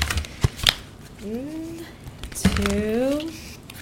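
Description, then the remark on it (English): The Angels and Gemstone oracle card deck by Margaret Ann Lembo and Victoria Rose Martin is shuffled seven times, crisp papery riffles and sharp snapping bursts at uneven intervals, with a soft voice sounding twice briefly underneath. “And then I'm going to shuffle the deck 7 times.”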